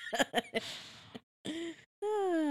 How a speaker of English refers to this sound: I've been yawning this whole time. So, it's early in the morning, guys.